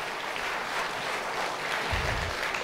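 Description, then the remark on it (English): An audience claps their hands in praise, a steady dense wash of applause filling the space at moderate volume, with no voices speaking over it. “Give him a hand clap of praise if you would, please.”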